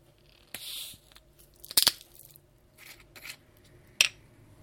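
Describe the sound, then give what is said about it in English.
The screw-top lid of a bottle of lemonade made to a recipe over 100 years old is twisted open after the bottle was upended, giving a soft scraping rasp followed by two sharp, crisp cracks as the seal breaks, with quiet pauses between and no talking. “It's a screw top lid.”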